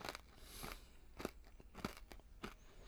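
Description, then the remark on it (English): Crisp crunching of hard candy being chewed, with several sharp bites spaced roughly evenly over a few seconds and no talking. “Just chewing that candy.”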